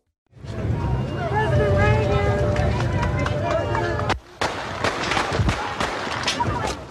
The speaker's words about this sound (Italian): Spara tutti e 6 colpi della pistola. Il primo colpisce la testa a Jim Brady, uno degli assistenti del presidente. Il secondo e il terzo feriscono 2 agenti di polizia che si trovano sulla traiettoria. Il quarto rimbalza sul finestrino dell'auto.